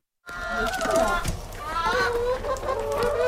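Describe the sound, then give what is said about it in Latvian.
A flock of about 200 hens on a small family farm in Kulta parish, Limbaži municipality, Latvia, clucks and squawks continuously, many overlapping calls rising and falling with no pauses. “Par 200 vistām Kultas pagastā rūpējas Ieva.”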